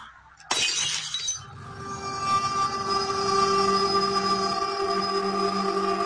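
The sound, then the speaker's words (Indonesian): A sudden crash as drinking glasses drop and shatter on a kitchen floor around 12:30 at night, a bright, glassy burst lasting about a second, then a steady, rising rumbling hum with ringing tones that continues to the end. “Terdengar suara benda jatuh dan pecah.”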